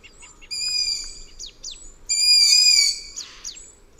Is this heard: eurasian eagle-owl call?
yes